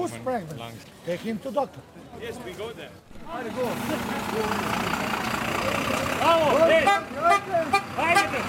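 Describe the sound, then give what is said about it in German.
A steady low engine rumble of buses idling nearby runs beneath a crowd of overlapping voices talking and calling out, as refugees stand in pouring rain outside a registration centre in Preševo, Serbia, waiting for buses to the Croatian border. “Die Busse, die in der Nähe warten, bringen die Flüchtlinge nach der Registrierung quer durch Serbien an die Grenze zu Kroatien.”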